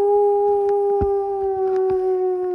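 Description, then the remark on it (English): An animal howls at night in one long, unbroken, steady-pitched note that carries loud, with faint scattered clicks and rustles underneath and no voices. “I don't want to go anywhere near anything that howls, said Pete stubbornly.”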